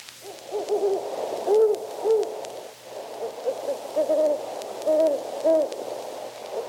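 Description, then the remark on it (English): A great horned owl gives a series of deep, mellow hoots at night in February in the Northland, repeated in soft rhythmic phrases over a few seconds against a quiet background with no talking. “Great horned owls are starting to hoot their deep, mellow hoot at night.”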